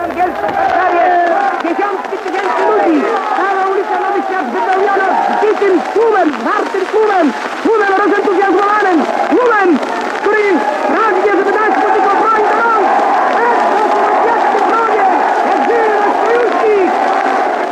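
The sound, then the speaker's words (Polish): A dense crowd of many thousands shouts and chants outside the British and French embassies in Warsaw, reacting to Britain and France joining the war, chanting 'niech żyje nasz sojusznik' (long live our ally), with rising, overlapping calls and bursts of cheering that stay loud throughout as minister Beck enters the British embassy courtyard. “Tłum skanduje: niech żyje nasz sojusznik.”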